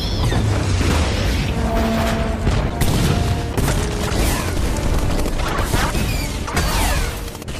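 A loud, dense barrage of action-movie mayhem from Michael Bay's film Six Underground: booming explosions, metallic crashes and rapid gunfire-like bursts pile on top of each other continuously, with swelling music-like tones underneath and no clear talking.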